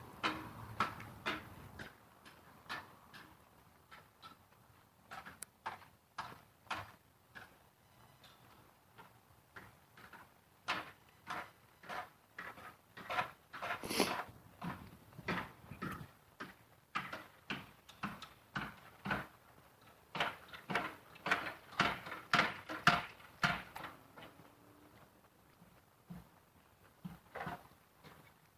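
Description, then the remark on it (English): Irregular hammering and knocking from a man working on concrete forms before 8 o'clock on a Saturday morning, sharp wooden and metallic taps coming in uneven bursts, moderately quiet, with no talking. “This guy out here working on these concrete farms. Not even 8 o'clock on a Saturday morning.”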